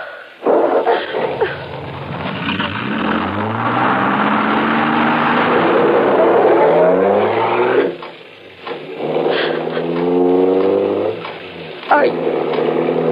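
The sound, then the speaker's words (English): A car engine starts up loud, revving with rising pitch, easing briefly, then revving hard again as the car pulls away and drives off. “Now give me that gun and get in that car.”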